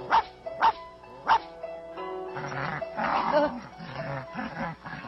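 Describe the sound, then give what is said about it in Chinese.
A small female dog barks three times in quick, sharp yips after biting someone, followed by a few seconds of busier, tonal yelping and whining noise. “你这只小母狗怎么乱咬人呢？”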